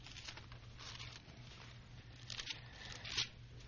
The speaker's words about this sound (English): I still enjoy hearing the pages turn of the Bibles. Glad you have them with you.